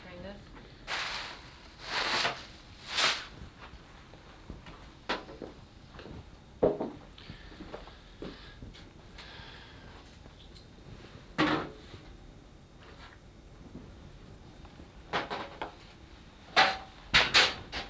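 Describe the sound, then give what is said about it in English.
Cupboard doors opening and closing: a series of sharp wooden clunks and bangs at irregular intervals, with quieter rustling and handling noises between them. “It's a multi-purpose cupboard, dear.”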